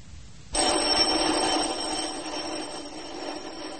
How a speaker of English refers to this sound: In a house in Aberdeen, a man is aroused from his bed by an insistent ringing at his doorbell.